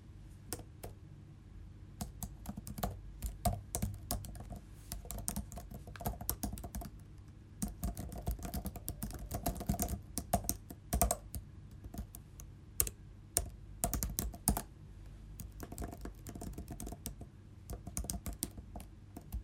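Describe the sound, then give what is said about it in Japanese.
Rapid, irregular clacking of keys on a computer keyboard, steady for the whole stretch, with a few sharper, harder key strikes standing out. No voices. “タイピングの音。”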